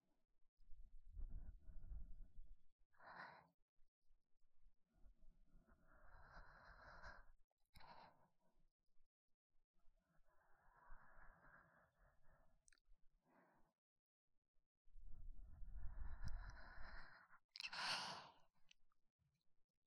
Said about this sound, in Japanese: 温かい息が耳に当たって気持ちいいでしょ？